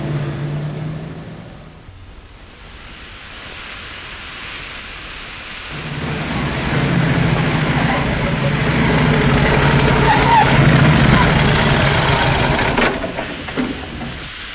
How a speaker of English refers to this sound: Looks as though this car's been overheated. Fan's broken.